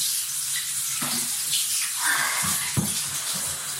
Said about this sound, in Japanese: それじゃあ、次は、クリトリスにシャワーを当てたいと思います。